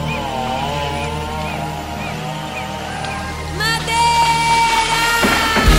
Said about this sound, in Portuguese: Agora ela vem, ela, com a sua motosserra.